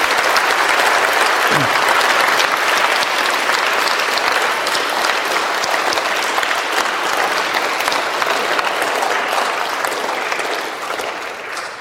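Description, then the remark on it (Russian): A standing church audience applauds steadily to thank God for the church's ministers, a dense wash of many hands clapping at a constant loud level for about ten seconds before beginning to taper off at the end. “И давайте сейчас, вот послушайте внимательно, поблагодарим Бога аплодисментами за то, что в нашей церкви есть такие служители.”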